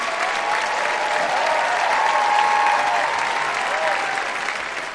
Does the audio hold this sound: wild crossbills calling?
no